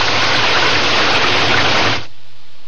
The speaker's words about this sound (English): It's a clear sky above the trees. Maybe we don't get... I was wrong. We get rain again.